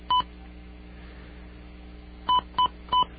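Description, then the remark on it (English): Four short telephone keypad tones as a phone number is dialed on an outside line: one beep, a long pause, then three quick beeps in a row. They are clear and moderately loud over faint background hiss, with no talking. “I'm sorry for all the little beeps, but they're...”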